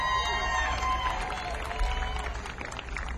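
A crowd applauding and cheering, a steady wash of clapping with whoops and shouted voices riding over it, holding at an even, fairly loud level throughout.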